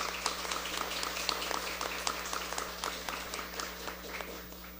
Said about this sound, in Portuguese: Aplausos.